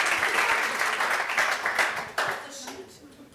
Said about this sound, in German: Ja, bitte, alle klatschen nochmal kurz.